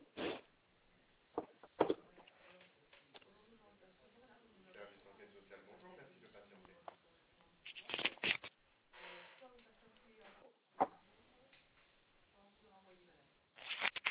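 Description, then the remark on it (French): Rustling and clattering of objects being shuffled around as someone searches for a pen and paper, with sharp bursts of handling noise scattered over several seconds, while a voice murmurs faintly in the background. “Excusez-moi, je cherche un stylo. D'accord. Et un papier, pardon.”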